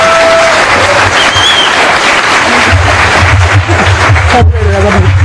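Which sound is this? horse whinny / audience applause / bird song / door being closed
audience applause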